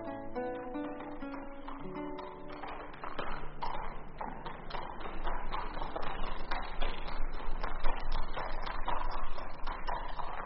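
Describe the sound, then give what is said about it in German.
A hunter's horse's hooves clip-clop in a steady, brisk rhythm, growing louder after a brief tonal, music-like opening, with no voices present. “Seht, das ist der Jäger. Ach, welch ein schönes Pferd.”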